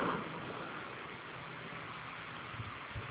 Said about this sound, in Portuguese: Eu estou ouvindo você, pode falar. É que estou no trânsito.